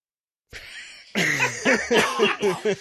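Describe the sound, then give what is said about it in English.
A short run of loud coughs follows a brief breathy rasp. The coughs come in quick, uneven bursts with a hoarse, voiced edge, and no one speaks. “It's incredible the amount you want to cough.”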